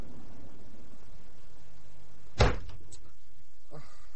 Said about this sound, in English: I can see from the way you've just splintered my door